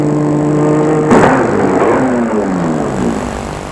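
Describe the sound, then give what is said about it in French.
A car engine hums steadily, then gives a sudden surge before its pitch drops away as the vehicle slows on a company's private streets and winds down to stop in front of a modern ten-storey glass building, with no voices. “La voiture va s'arrêter devant un bâtiment de 10 étages moderne en verre.”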